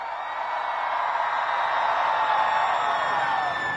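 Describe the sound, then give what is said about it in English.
A large concert crowd screams as loud as it can on a count of three while a band takes a photo with the audience, a dense, sustained roar of many voices that holds steady for several seconds without letting up. “And on the count of three, I want to hear you guys scream as loud as you fucking can.”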